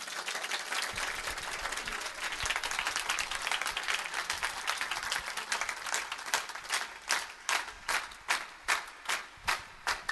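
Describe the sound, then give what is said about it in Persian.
A crowd claps in honor of Hazrat Zahra (Fatima) at a religious gathering, a dense, loud wash of applause that gradually thins into slower, distinct, rhythmic claps spaced about half a second apart toward the end. “این دستا رو بیارید بالا، ناز قدم های بی بی جانمون یک کف بزن.”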